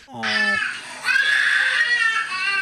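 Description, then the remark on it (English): A 2-year-old boy screams in the shower in warm water, in long, shrill, piercing wails that rise and hold, with only a brief dip between outbursts. A lower voice is briefly heard at the very start. “his 2-year-old who got soap in his eye, and now he screams every time he's in the shower every day.”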